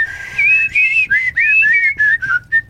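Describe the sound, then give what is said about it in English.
A person pucker-whistles through lips rounded into a circle, a clear melodic tune of several gliding and wavering notes with short breaks between phrases, heard alone without talking. “they are doing what's known as pucker whistling.”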